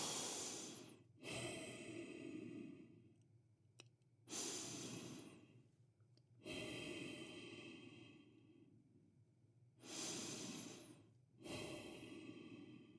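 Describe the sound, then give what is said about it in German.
Slow, deep breaths, a steady series of long airy inhales and exhales with short pauses between them, and no talking. “2 bis 5 tiefe Atemzüge sagen dem Körper, alles ist gut, es ist zumindest erst einmal keine Lebensgefahr.”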